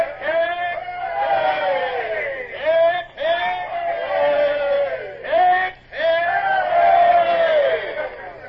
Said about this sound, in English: Man the yards and have the men give 3 cheers as Lord Eastlake's boat pulls away. Aye, aye, sir. Man the yards! Man the yards! Now then, men. Lord Eastlake has brought you a present for saving the convoy. 3 cheers for his lordship!